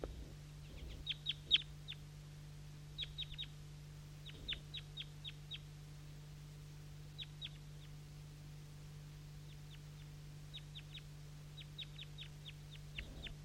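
Two or three wild birds call from the top of a maple tree at about 8 a.m., in bursts of quick, high chirps, repeated in small groups with pauses between, fairly faint over a steady low hum.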